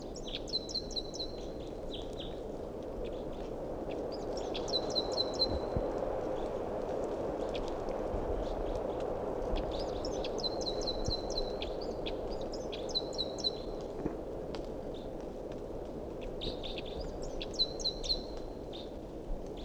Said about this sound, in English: Now back to the wild bird.